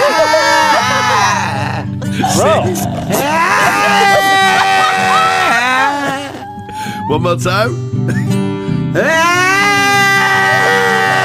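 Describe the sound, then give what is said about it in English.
A person imitates a goat's bleat with loud, quavering, wavering cries repeated several times, broken up by brief speech from other voices. “Now, can you do the goat?”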